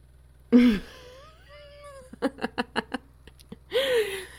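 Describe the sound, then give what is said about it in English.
A cat yowls pitifully: a wavering cry, a long warbling whine, a quick run of about six short pulsing calls, then one more drawn-out, rising-and-falling yowl. No one talks. “She also says she hasn't heard you sound that pitiful in a while.”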